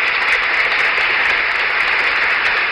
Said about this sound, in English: And now the applause for the president and Mrs. Nixon. Everyone in the room stands.